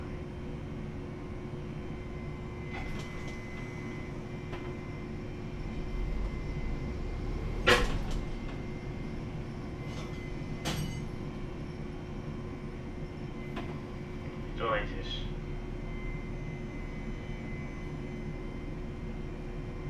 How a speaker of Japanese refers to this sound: 発車します。釣り革や手すりにお捕まりください。 前に動きます。